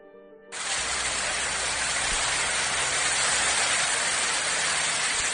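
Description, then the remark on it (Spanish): Heavy, steady rain from a storm front over the northern half of Spain, a dense even hiss that sets in abruptly after a brief tonal note and holds at the same loudness throughout, with no voices. “Durante todo el fin de semana, el sonido para muchos lugares de la mitad norte de España ha sido el mismo.”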